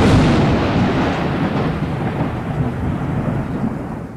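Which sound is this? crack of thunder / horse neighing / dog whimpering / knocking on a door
crack of thunder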